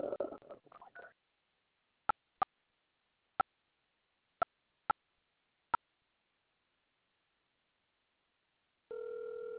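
A brief rustle of handling, then six short keypad beeps at uneven intervals. After a pause, a steady ringback tone begins right at the end as an outgoing call starts ringing.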